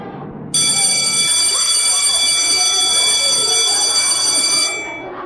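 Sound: school bell ringing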